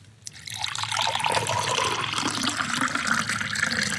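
Liquid pours steadily into a vessel after a brief click, a continuous splashing, gurgling stream that rises in pitch slightly as the container fills, fairly loud with no talking.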